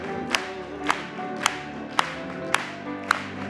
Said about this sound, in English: Clap it to him.